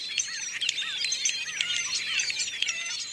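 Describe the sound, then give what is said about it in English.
A flock of European starlings chatters continuously, a dense overlapping mix of chirps, whistles and squeaky calls filling the air at a steady, busy level with no pauses. “Today, those first 100 starlings have multiplied into more than 200 million birds.”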